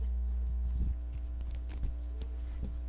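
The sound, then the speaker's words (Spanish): Quick footsteps of someone hurrying across a floor, half a dozen soft thuds in an uneven rhythm over a steady low hum, moderately quiet. “Voy corriendo.”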